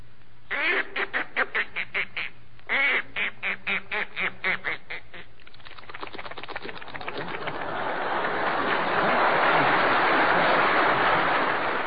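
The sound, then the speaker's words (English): A performer's voice imitates a duck going into the water for Major Bowes: two runs of quick, rhythmic quacks, then a rising, hissing splash-and-gurgle noise that swells and holds, mimicking the duck entering water. Close to the microphone and fairly loud. “First here is Duck Going Into the Water.”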